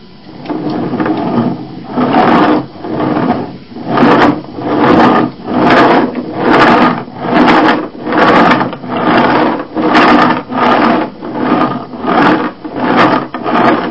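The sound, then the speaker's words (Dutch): A loud mechanical whirring and grinding from a toy tractor, pulsing in steady repeated bursts roughly every second for the whole stretch, with no one talking. “Nou, die maakt veel lawaai, hè? Kijk, en dit kan je er ook uithalen. Dit is de schoorsteen van de tractor.”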